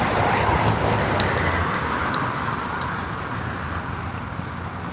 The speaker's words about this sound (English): I'm quiet because I'm watching all the traffic. I'm trying to cross the street here without getting run over.